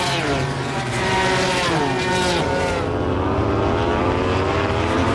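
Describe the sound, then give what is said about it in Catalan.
Racing motorcycle engines roar loudly and continuously during a race, several high-revving machines with pitch sweeping up and down as they pass by, Marc Márquez right behind Brad Binder; no talking over them. “Escoltem aquestes motos.”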